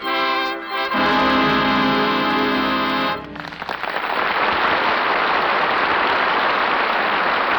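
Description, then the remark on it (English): A sustained orchestral chord swells for a few seconds, then gives way to a steady, loud wash of falling rain that continues evenly to the end, closing Act One of the Lux Radio Theater play Forsaking All Others. “And I always thought that rain was lucky for me.”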